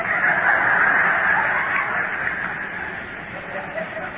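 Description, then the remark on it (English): A dense, noisy chorus of birds clucking and squawking over one another, steady and fairly loud throughout, like a crowded flock of fowl. “A lot of Pentecostal birds.”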